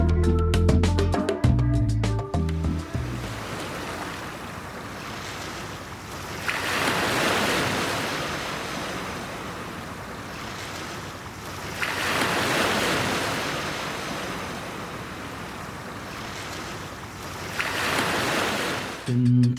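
Surf washes onto a shore in slow, rolling swells, each wave building to a hissing crash about every five or six seconds, following a short snippet of music at the start.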